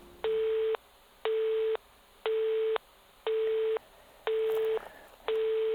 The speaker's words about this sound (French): Jusqu'à ce que ça fasse bip, bip, bip.